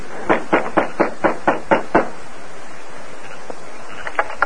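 After dark, the masked man gives a quick series of about eight sharp knocks on the wooden front door of the sheriff's house, evenly spaced, followed by a pause and a few fainter taps, with no voices.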